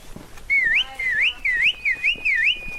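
Loud human whistling in five quick repeated phrases, each a high tone that dips and swoops back up, with faint background rustle and no talking: a three-man team of wranglers whistling to drive a baboon troop out of a village.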